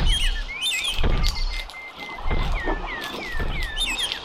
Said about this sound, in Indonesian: Dengar, itu pasti langkah kaki Buto Ijo.